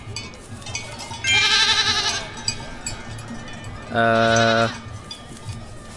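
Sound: goat bleating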